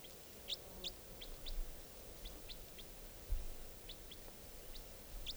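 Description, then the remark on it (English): A juvenile wild bird gives a series of short, high chirps, about a dozen spaced irregularly, fairly soft over a steady background hiss and low rumble, with no voices. “Pointed at the wild bird. Nothing. Wild bird.”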